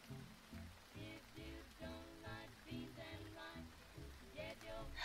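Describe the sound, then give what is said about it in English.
Light rain patters steadily throughout, a soft constant splatter beneath a louder, muffled tonal murmur like distant music or a fading broadcast. “As the broadcast fades into the distance, you feel a light splatter of rain.”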